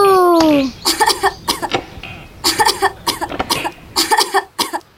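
A child coughs repeatedly in several harsh, close bursts, some coming in quick clusters, after a brief rising tone at the start.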